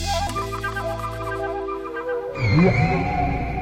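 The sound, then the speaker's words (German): Whale song: long, low moaning tones hold steady, then give way to rising, sweeping cries and higher whistles, echoing as if underwater. No one speaks. “Von Gesang sprechen Forscher deshalb, weil die Wale Tonfolgen erzeugen, die sich wiederholen.”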